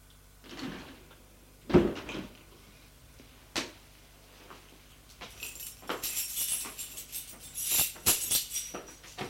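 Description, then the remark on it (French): An apartment door is unlocked and opened: a few sharp clunks and knocks of the latch, then a hissing, rustling scrape as it swings, with soft footsteps after. No voices. “Ouvre la porte de son appartement.”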